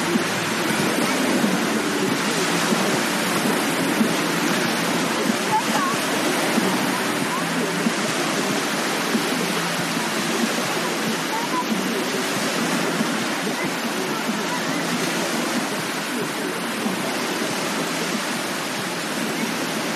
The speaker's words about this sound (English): Back to the waves, and that'll be the end of this little clip.